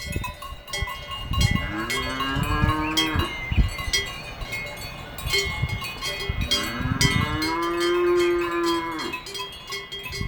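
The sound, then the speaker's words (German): Loud, continuous, deafening clanging of many bells hung on cows close by, a dense metallic jangle, with two long, low moos rising out of it from the cows. “Ihr hört vielleicht ein bisschen Moon, ihr hört aber vor allem die ohrenbetäubenden Glocken, die man diesen Kühen umhängt.”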